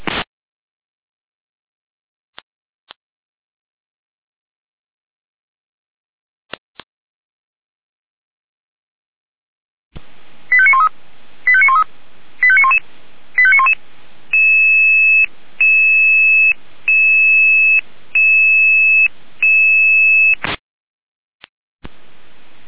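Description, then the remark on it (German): Radio alerting tones from the Jena dispatch center, calling out a rescue helicopter for a patient transfer from the Bad Tennstedt clinic to Erfurt: a run of quick warbling chirps, then about eight evenly spaced steady electronic beeps, loud and clear, following several seconds of near silence with a few faint clicks. “Leitest du Jena mit Alarmierung?”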